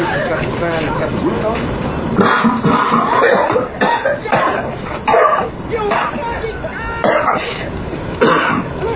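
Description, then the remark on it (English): A prolonged coughing fit: a rapid series of harsh, raspy coughs and throat clearing, loud, over a murmur of background voices and noise. “Coughing's good. It opens up the capillaries, you know.”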